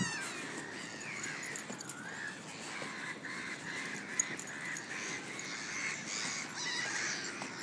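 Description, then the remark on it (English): A busy flock of seagulls and pigeons being fed by someone in Brockwell Park, calling over one another in a steady, overlapping chorus of squawks and cries, continuous throughout with no one speaking. “They're seagulls. Seagulls and pigeons.”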